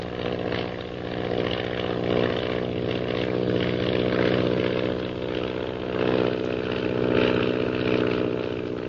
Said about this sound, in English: Shanghai Lil zooms skyward with the intention of climbing above the mysterious purple triangle plane unnoticed.